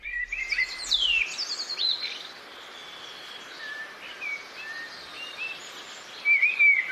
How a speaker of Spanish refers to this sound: Ese es el mirlo, que lo escuchamos casi todos en nuestras poblaciones y cuando salimos al campo también. Y seguramente que estáis acostumbrados a escucharlo. ¿No os fascina?